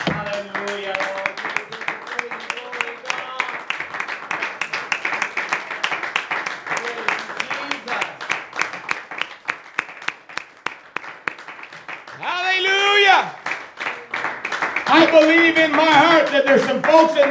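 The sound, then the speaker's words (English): A church audience stands and claps steadily in a dense, rapid patter, with voices calling out over it; near the end, clapping gives way to loud, rising voices shouting or singing together. “Let's stand to our feet and clap our hands.”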